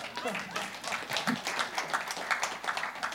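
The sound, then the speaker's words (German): A burst of crowd applause: many hands clapping in a dense, steady patter for about three seconds, with a murmur of voices mixed underneath. “Applaus für dich, danke.”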